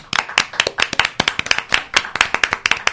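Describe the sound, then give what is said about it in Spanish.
A small audience applauds after a reading from the book Cordón Sojo, with sharp, irregular hand claps overlapping steadily for a few seconds at a fairly loud level, and no voices. “y le vamos a dar un fuerte aplauso.”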